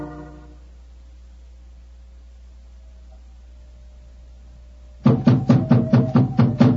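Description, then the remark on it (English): After several seconds of near silence with a faint hum, someone raps loudly on the door of an elephant house, a quick, steady run of about eight knocks. “Knock again, old fellow, will you?”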